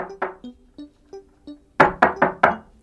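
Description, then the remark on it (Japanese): A series of knocks on a wooden door: several lighter, evenly spaced raps followed by four louder, heavier knocks in quick succession, with no voices; in an Aesop fable, the grasshopper knocks on the ant's door. “キリギリスがドアをノックすると中からアリが出てきました。”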